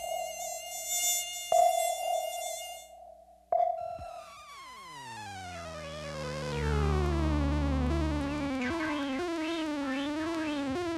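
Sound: mosquitoes buzzing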